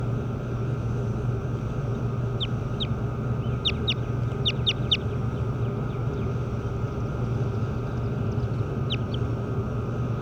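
bird calls

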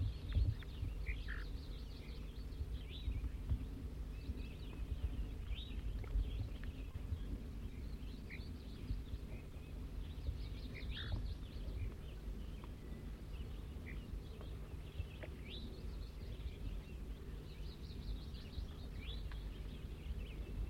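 wild bird calling

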